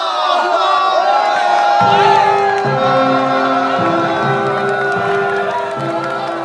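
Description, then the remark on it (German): A large crowd in Germany in 1914 cheers and shouts continuously as it accompanies soldiers to the train station, a dense roar of many voices with whoops rising above it, while a steady low droning hum runs underneath. “Die Menschen jubeln und begleiten die Soldaten zum Bahnhof.”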